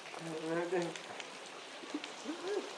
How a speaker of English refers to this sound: Right, I can either hold my hand here and have the rain go down the inside of my arm, or I can let that go and have it run down the inside of my chest. It's already run down my back and chest.